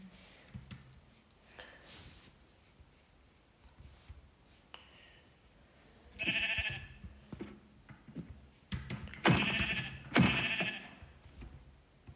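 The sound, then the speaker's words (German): Several sheep bleat in short, wavering bursts, with a faint one early and louder calls clustered toward the end, over quiet background clicks and shuffling. “Okay, da hinten sind sogar noch, ich spiele übrigens auf Deutsch, ein paar Kürbisse und ich hole mir jetzt ein paar Schafe.”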